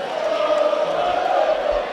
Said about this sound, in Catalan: aplaudiments per la colla de Xavier Bayer.